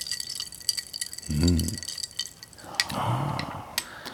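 Ice cubes clink lightly against a drinking glass holding a drink with grapes at the bottom, in a run of sharp ticks, with a brief low voice sound in the middle and again toward the end.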